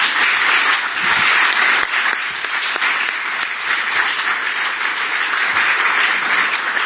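A crowd breaks into sustained applause, a dense, steady wash of many hands clapping at an even loudness for several seconds with no talking over it.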